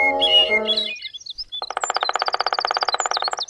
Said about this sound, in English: Is that a woodpecker? Or are you just happy to see me? Shh. It's a black-backed woodpecker. It's a pair, and it looks like they've got a nest hole up there.